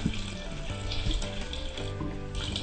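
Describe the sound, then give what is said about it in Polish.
About 1.5 litres of water pours steadily into a pot of thick vegetable borscht being cooked, in a continuous splashing stream, fairly loud, with a faint metallic ring from the vessel; no one speaks. “Dodajemy po 1,5 litra wody.”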